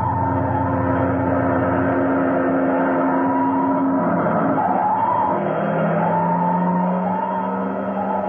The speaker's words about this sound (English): Uh-oh. What's the matter? Fire engine.